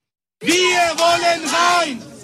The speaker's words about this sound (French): Laissez-nous entrer, scande une foule de clients mécontents venus demander des comptes, comme cet homme.